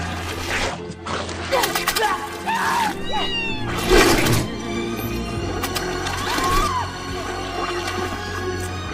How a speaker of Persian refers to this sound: فرار نکنید و بذارید گربه ها شما رو بخورن. فرار نکنید.